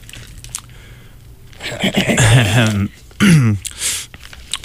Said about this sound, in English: Cough, cough.